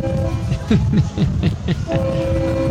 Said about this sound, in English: This sounds like a sporting event with all the cheering going on.